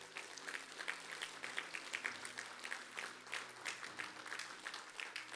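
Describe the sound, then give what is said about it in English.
An audience at a church service claps their hands in praise to the Lord, a dense, steady patter of many hands sustained throughout, with a low hum and faint voices underneath. “Can you give the Lord a hand clap of praise for all of these?”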